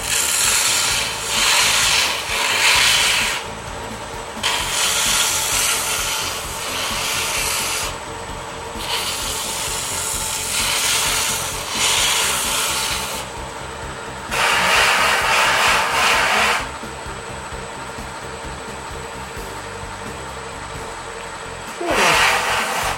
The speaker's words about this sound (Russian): И мы сейчас на скотч-брайте просто-напросто это все чистим, подчистим.